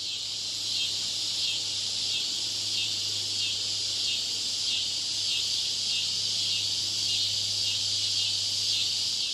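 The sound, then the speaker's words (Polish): A dense, steady chorus of crickets in a meadow on a summer afternoon trills continuously throughout, high-pitched and shimmering with a faint pulsing rhythm, plus a low constant hum underneath and no voices. “W pamięci zapada letnie popołudnie i łąkowy koncert świerszczy.”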